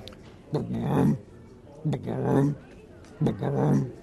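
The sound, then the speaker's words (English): A person imitates the call of an American bullfrog of New England with their voice: three deep, droning croaks in a slow, even rhythm, each lasting under a second, fairly loud. “Bullfrogs in New England start to call late in the summer, and they sound something like this.”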